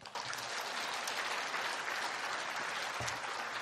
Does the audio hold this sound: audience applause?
yes